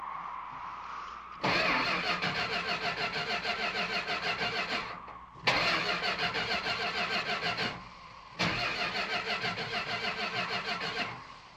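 vehicle, car engine starting

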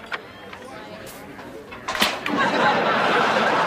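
household object, door being opened

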